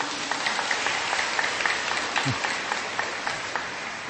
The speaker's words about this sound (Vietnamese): Bây giờ các em áo xanh không còn ghế ngồi, phải đang ngồi dưới đất này, cho một tràng pháo tay hoan hô như em áo xanh ấy đi.